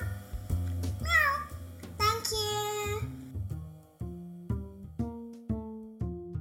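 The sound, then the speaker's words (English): A child's voice imitates a cat, giving two high, rising-and-falling meows in the first few seconds, over a steady, plucky musical backing that continues alone afterward. “My favorite animal is a cat. Meow. Meow, meow.”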